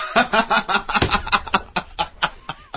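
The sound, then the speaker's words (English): A quick, loud run of cartoonish bird squawks and giggly chatter from the Angry Birds game, about a dozen sharp bursts in an uneven rhythm, clear with no talking over them. “Who has been playing Angry Birds?”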